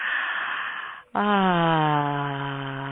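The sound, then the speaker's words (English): An airy in-breath is followed by a short pause, then a long voiced exhale: a steady, sustained hum-like tone whose pitch sinks slowly as the breath runs out. “Breathing and exhaling a sound on the out-breath.”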